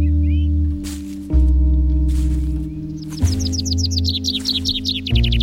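A common blackbird sings in short bursts, ending in a quick run of bright, high twittering notes, heard over a steady, loud low drone with no one talking.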